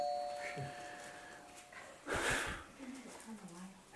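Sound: doorbell ringing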